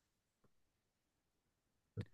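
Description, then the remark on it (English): Two computer mouse clicks, a soft one first and then a sharper, louder click about a second and a half later. “And just start clicking on some of those guys.”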